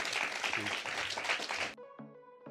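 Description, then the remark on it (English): A burst of dense crowd applause with cheering for Clive Lewis runs for under two seconds, then cuts abruptly to a few ringing, tuneful notes. “Massive round of applause for Clive Lewis. Woo!”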